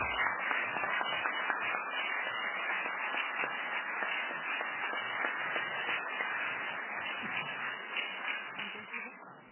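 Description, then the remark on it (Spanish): Steady, dense applause from an audience for the presenters at the close of an Instituto Nacional Electoral panel discussion, a crowd clapping continuously at an even loudness for about ten seconds before tapering off slightly at the end, with no one speaking over it. “Pido un aplauso para los expositores.”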